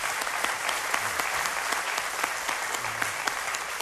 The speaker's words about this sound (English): But if you, yeah, that's worth clapping for.